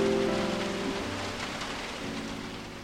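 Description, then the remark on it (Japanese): Steady, cold-sounding rain mixed with sleet pours down outside a window in a dense, even hiss, constant, with a faint low rumble underneath and no voices. “やがてスーとベーアマンが眠っているジョンジーのそばへやってきて、窓の外のツタを見つめていると、外はみぞれ混じりの冷たい雨が降り始めます。”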